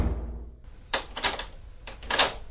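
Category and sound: household object, door slammed shut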